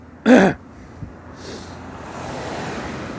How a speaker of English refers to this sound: Hi, car! You got stuff sticking out your trunk and you're loud.